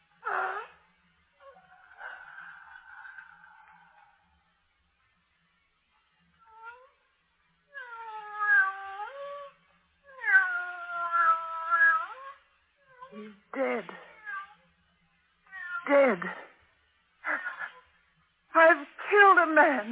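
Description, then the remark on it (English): A squeaky door creaks again and again as someone swings on it, drawn-out whining squeals that rise and fall in pitch, some long and wavering, others short and quick, ending in a burst of rapid creaks. “Squeaky door.”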